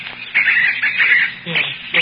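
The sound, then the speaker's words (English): A woman imitates a brown thrasher's song with her voice as a performance act, producing a fairly loud run of varied, chirpy warbling phrases with short breaks between them. “They're very good impersonations.”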